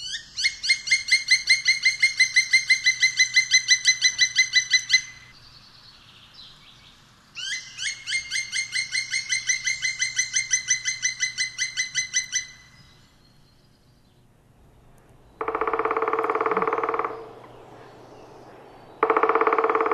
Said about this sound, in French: Donc, le pic noir est capable de faire plusieurs sortes de bruits différents. Oui, des cris, des chants, et puis il tambourine. On écoute ça?